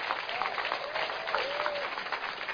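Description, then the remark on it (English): An audience applauds steadily for a few seconds, a dense wash of clapping with a few thin cheers and whoops rising faintly above it. “Come on, give yourself a big growl.”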